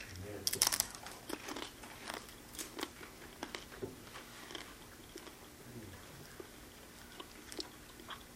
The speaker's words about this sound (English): Just take your time and chew it. As you think on his body. Apostle didn't give y'all a crumb this morning. He gave us a big piece because I'm still chewing. He was very generous.